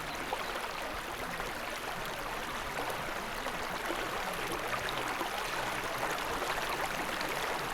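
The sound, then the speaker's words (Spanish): Water rushes steadily in a constant, even hiss, like a strong stream gushing from the trunk of the Wazaká tree, fairly loud throughout with no voices. “A stream of water gushed from the tree trunk.”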